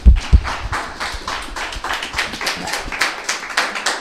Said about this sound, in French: Alors on applaudit ceux qui font la cuisine.